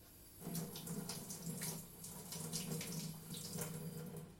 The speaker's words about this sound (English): What I'm going to do now, you obviously don't want to cook chops with that much salt and sugar on. So what I'm going to do is I'm going to take them over here and I'm going to literally rinse them under the tap.